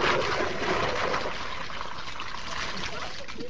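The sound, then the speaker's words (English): Steady, continuous sloshing and trickling water as a woman washes clothes by hand in an open courtyard, rubbing and swishing them, with no voices. “She does all the washing by hand in the open courtyard.”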